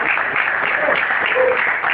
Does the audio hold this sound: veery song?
no